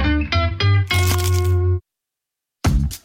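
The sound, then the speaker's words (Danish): A loud, crunchy bite into a McDonald's McCrispy crispy chicken burger, taken as an attempt at a silent bite: a quick run of crackling crunches, a brief silence, then one more crisp crunch. “Det her var et forsøg på at tage en lydløs bid af den nye knasende kyllingeburger McCrispy.”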